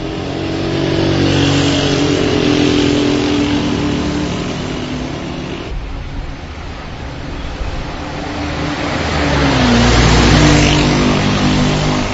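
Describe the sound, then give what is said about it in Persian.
Steady roar of heavy street traffic, ordinary cars and motorcycles passing along Valiasr Street in Tehran, Iran, with engines revving and surging, swelling louder toward the end; no voices, just continuous dense road noise. “اینا صداهای تانک و قطار و اینا نیست، بلکه صدای خودروهای عادی و موتورسیکلت‌های عادیه که از طولانی ترین خیابون تهران یا خیابون ایران، خیابون ولیعصر، دارن عبور میکنن.”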